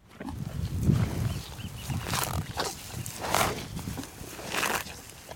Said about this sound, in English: The cows. At any given time, there's several thousand of them roaming the pastures across Point Reyes. They're here to supply the 24 beef and dairy ranches that operate in the national park.